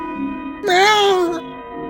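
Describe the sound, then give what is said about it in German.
A single drawn-out cat meow, rising and then falling in pitch, lasting under a second. It is fairly loud against a quiet background hum. “Ich scheuche die Katze weg.”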